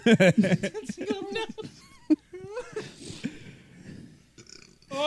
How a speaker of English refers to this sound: I haven't had that kind of reaction from a fart in a long time. That's awesome. Thanks, guys. Because they've always been so bassy and just like... That one was just a wet mess.